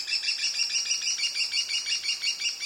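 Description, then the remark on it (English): An American kestrel gives a fast, steady series of shrill, high-pitched 'klee-klee-klee' notes, repeated evenly, with no voices and little else in the background. “A number of stewardship programs are coordinating volunteers to help build and put up nest boxes, improve habitat, and monitor how these cool little falcons are doing. Community conservation can be the key to the kestrel's success.”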